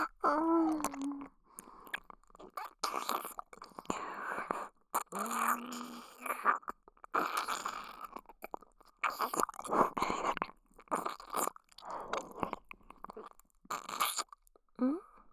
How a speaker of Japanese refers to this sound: ただペロペロしてるだけなのに、エッチな吐息いっぱい出てるよ。